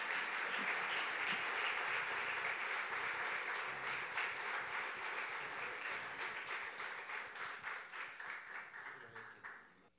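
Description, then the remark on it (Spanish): A church crowd claps steadily to welcome two people invited forward, sustained, dense applause that holds for several seconds, then thins into scattered claps and fades out at the end. “vamos a darles todos un aplauso bien, bien grande.”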